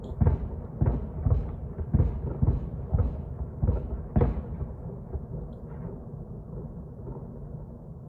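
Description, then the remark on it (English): A rapid series of heavy, deep booms from missile strikes on Kiev, about eight blasts in four seconds, followed by a low rumbling that slowly fades away, with a car alarm set off by the shockwaves. No one speaks. “This is another take on another angle from the Kiev, what we believe are the Kiev explosion from this video.”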